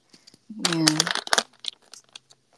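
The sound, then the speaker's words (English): Crinkly rustling as scraps of paper are grabbed and crumpled in a few quick bursts, with a brief vocal murmur partly over the noise. “I'm just gonna grab whatever scraps there is, like pieces of paper.”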